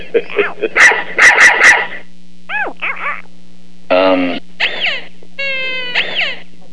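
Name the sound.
small lap dog barking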